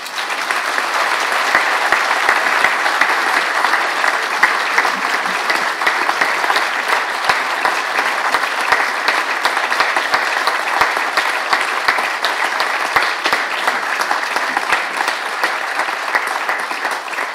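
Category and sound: crowd, audience applause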